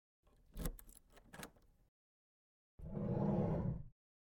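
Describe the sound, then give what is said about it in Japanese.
A short burst of metallic jingling and clicks as keys unlock the door of an empty classroom used as a class committee meeting room, followed after a brief pause by a steady rumbling slide of the door opening. No voices. “今、鍵開けるね。”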